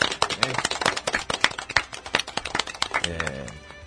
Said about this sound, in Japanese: 今日の放送をもちまして第254回目を迎えました。拍手。 イエーイ。